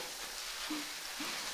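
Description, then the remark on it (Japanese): Steady, soft fizzing and crackling of carbonated shampoo foam on a scalp, a dense hiss of tiny bubbles popping continuously, with a couple of faint low squelches from fingertips rubbing the scalp through it. No one speaks. “シュワシュワーって音が聞こえてますよね。”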